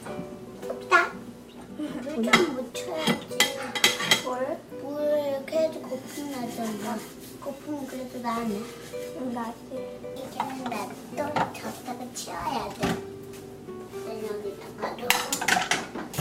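Large pots, pans and dishes clatter and clank in a sink as they are washed after breakfast, with scattered metallic knocks and scraping throughout, while a young child babbles and chatters.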